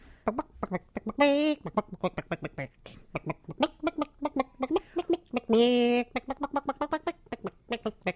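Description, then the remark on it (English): A chicken clucks in quick, steady bursts for several seconds, broken by two longer drawn-out squawks, fairly loud with no one talking over it, heard in a played clip. “It's a chicken that can do a trick, and these guys are like impressed by it, so they decide to buy the chicken because it can do this.”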